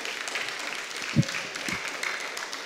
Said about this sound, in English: Yeah, clap for God. Want to clap for God.